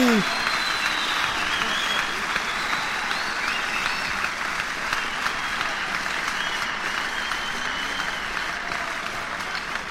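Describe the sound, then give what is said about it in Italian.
A large crowd applauds steadily for the full length, a dense, even wash of clapping that holds at the same loud level without pause or build. “Un po' di applausi!”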